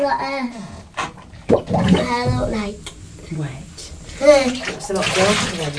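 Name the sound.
water splashing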